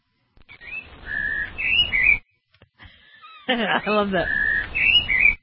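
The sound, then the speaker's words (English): Bright, lively bird chirps and whistles come in two close, loud bursts separated by a short pause, with rapid trilling notes and rising and falling whistled tones. “I love that bird. So lively.”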